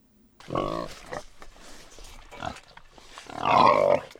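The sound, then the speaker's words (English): Pigs grunting at snack time at an animal sanctuary in the United States, in a few irregular bursts, with a loud, drawn-out squealing grunt near the end and quieter snorts in between. “It's snack time at the Kindness Ranch.”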